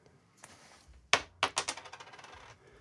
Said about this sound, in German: Dann werfen Sie doch mal die Münze.